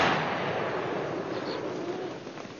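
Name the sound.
gunfire volley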